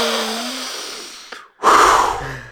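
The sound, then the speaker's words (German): A voice imitates a neighbour's heavy, snorting breathing: a long rasping inhale, a brief pause, then a loud, forceful huffing exhale, up front with no talking. “Die schnauft auch immer so”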